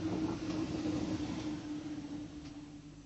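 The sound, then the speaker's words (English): The Chislehurst train rumbles steadily with a low, droning hum and a sustained tonal whine, the noise easing slightly as it rolls in. No voices are heard. “Ah, here's the Chislehurst train.”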